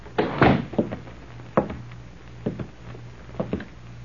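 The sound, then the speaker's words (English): A bank door is pushed shut by a man who has just walked in, with a solid thump, followed by a few softer wooden knocks and latch clicks spaced over the next few seconds, over a low steady hum. “They exchanged nods, and apparently satisfied, the man closed the door.”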